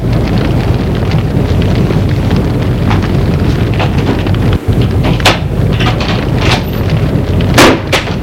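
A heavy, continuous rumble of thunder from a storm rolls on throughout, loud, with scattered sharper cracks breaking through the deep low roar.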